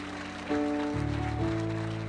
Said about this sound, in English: So can you give our live stream family a hand clap as well this morning?